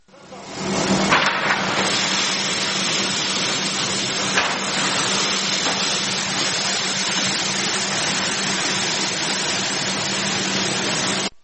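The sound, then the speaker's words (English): A dense, steady rushing hiss of harvested grain pouring into a silo, starting abruptly and holding at an even level for about ten seconds, like heavy rain, with a faint low hum underneath. “This moment when the silo, when the harvest comes into the silo.”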